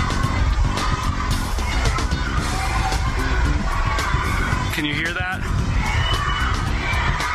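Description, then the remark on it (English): Hundreds of parents and children detained by ICE shout in protest from behind the walls of the Family Detention Center in Dilley, Texas, a loud, dense, continuous wall of overlapping voices with rising cries of "let us out", while a single voice briefly speaks over the din. “The shouts of hundreds of parents and children detained by ICE, protesting from behind the walls of the Family Detention Center in Dilley, Texas, over the weekend.”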